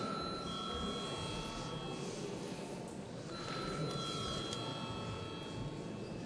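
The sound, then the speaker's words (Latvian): A continuous electric bell in the Latvian parliament rings without pause for several seconds to call a vote, a steady, shrill metallic clatter, with no one speaking over it. “Paldies, lūdzu zvanu.”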